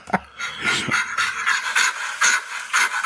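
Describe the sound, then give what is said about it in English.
Heavy, rapid, gorilla-like panting from a person, with harsh breathy huffs repeating in a quick steady rhythm, loud, with no talking. “What animal is it? A gorilla. It's a gorilla.”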